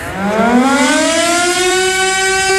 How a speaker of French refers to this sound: Oui, vous l'avez reconnu, la sirène d'alerte, celle qui retentit les premiers mercredis du mois en guise test. Eh bien, nous sommes mercredi, le 1er mai, et ne sonnera pas ce midi, jour férié oblige. Le test est reporté à demain